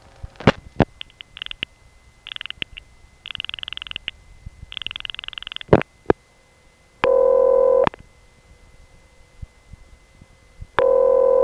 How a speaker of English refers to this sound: These ringtones were different from what I had ever heard before. For one thing, the ring was always very short, half the length of a normal ring, and it repeated more frequently. And the actual pitch of these ring sounds was kind of nondescript